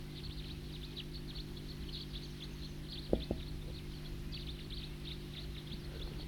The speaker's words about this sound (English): The bird that was tooping is now in song.